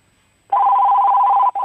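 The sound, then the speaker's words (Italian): A loud, steady electronic fax tone over a phone line, on a call to a parapharmacy in Ragusa, Italy, begins after a short silence, holds for about a second, cuts out briefly, then resumes. “Niente, è un fax.”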